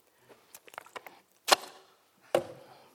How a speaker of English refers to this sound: Okay, Matthew thinks I slammed the bottle of water down too hard, so I did a bit softly this time.